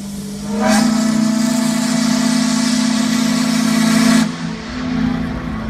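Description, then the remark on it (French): A steamboat whistle blows one long, loud, deep blast with a hiss of steam for several seconds, then cuts off, leaving a lower engine-like drone behind. “1811, le premier navire à vapeur fit retentir sa corne de brume le long du Mississippi, annonçant une révolution pour le transport fluvial américain.”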